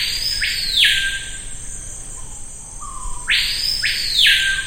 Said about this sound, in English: That superlative was thought to be the screaming pihah, a species heard across the Amazon. And the screaming pihah is really sort of the signature sound of the Amazon rainforest.